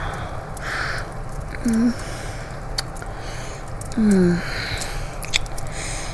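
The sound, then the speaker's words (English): Soft, wet nipping and biting sounds at the lips over a steady hiss, with two short low hummed murmurs in between and no words spoken. “Those lips of yours look so delicious. I just have to nip at them.”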